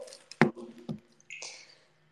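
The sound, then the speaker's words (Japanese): Brief handling noises: a couple of soft thumps followed by a short crinkly rustle as a mobile phone is taken out, with no talking. “もういいや、携帯出しちゃおう。”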